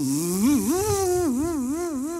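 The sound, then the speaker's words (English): A voice imitates a dentist's drill stalling while drilling on a tooth, a steady buzzing hum whose pitch wobbles up and down in uneven surges for about two seconds, with no words. “and they fire that drill up and they start drilling on that tooth and they stall it out.”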